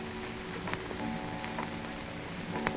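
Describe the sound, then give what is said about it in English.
A clock ticks faintly at six o'clock, a few soft, sparse clicks spread over a few seconds against a low, steady background hum, with no one speaking. “6 o'clock.”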